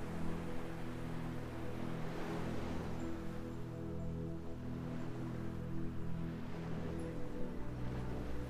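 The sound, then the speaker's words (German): Soft ocean waves wash onto a beach and recede in slow, steady swells, a gentle rushing surf with a low humming drone underneath and no voices. “Du kannst das Rauschen der Wellen hören.”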